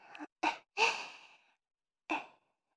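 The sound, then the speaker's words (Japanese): Soft, breathy exhalations blown right up close to the ear, a few short puffs followed by a longer sighing breath, then one more after a pause, with no talking. “耳に吐息かかっちゃいますね。”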